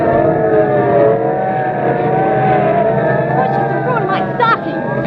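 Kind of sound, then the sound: vehicle, police cars speeding past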